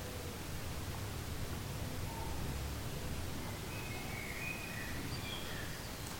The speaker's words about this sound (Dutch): Buiten twee houtduiven en een merel en mensen die voor het open raam aan het praten zijn.